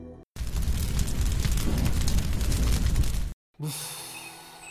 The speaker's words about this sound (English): "I will cover myself with your cloak," says the sun. But the cloth catches fire.